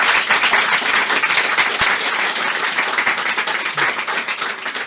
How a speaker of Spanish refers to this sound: Gracias también a todos vosotros por haber venido. Faltaría más. Un aplauso más para vosotros.